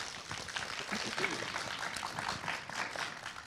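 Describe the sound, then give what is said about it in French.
An audience in a hall breaks into steady applause to answer whether they have read Alexandre Dumas's novel: a dense crackle of many hands clapping at an even, moderate loudness for the whole stretch, with some crowd murmur mixed in. “Par applaudissement, s'il vous plaît, qui a lu le roman d'Alexandre Dumas ?”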